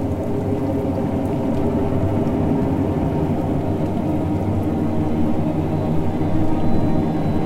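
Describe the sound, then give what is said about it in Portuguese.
Steady, heavy rain pours down without a break, growing stronger as a thunderstorm approaches, with a deep, continuous low rumble of thunder rolling in the distance underneath. No voices, just the constant wash of the downpour. “Já se ouvem os trovões ao longe e a chuva cai ainda com mais força.”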